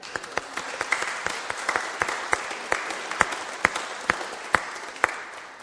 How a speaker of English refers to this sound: we should give you a round of applause.